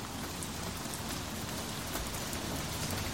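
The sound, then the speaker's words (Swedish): Light rain falls steadily in Karlstad in spring, on 27 March 2022, a soft continuous patter of drops with a few slightly sharper ticks, even throughout with no voices. “Det regnade lätt i Karlstad och novembermörkret hade bytts ut mot en tvekande vår.”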